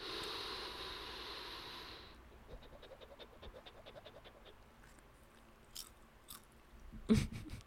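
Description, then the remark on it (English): Crunchy, rhythmic chewing of dry cat food by a person: quick repeated bites after a brief stretch of rustling noise, ending with a few sharper clicks and one louder crunch, with no talking. “let me eat the cat food. I'll eat all the cat food.”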